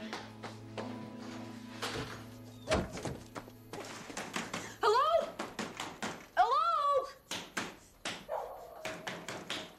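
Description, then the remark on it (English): Repeated heavy, loud pounding on a door, thudding in irregular bursts throughout, with a dog whining and barking between the blows. “Take it easy, boy. Don't break my door down.”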